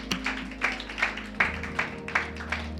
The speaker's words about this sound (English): Thank you for starting that clap. We'll continue it.